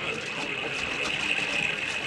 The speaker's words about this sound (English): Follow me with them wagons into the riverbed and under the waterfall. Yeah. Go ahead. Yeah. Keep under cover. Here we go under the falls.